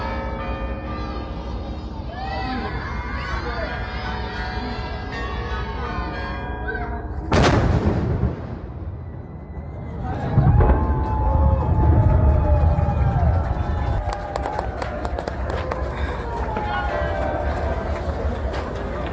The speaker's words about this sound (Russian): Выстрел из сигнального орудия произвел председатель Санкт-Петербургской региональной организации ВОС